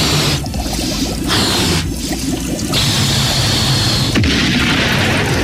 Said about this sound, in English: Oh, I guess I inflated it too much and it exploded.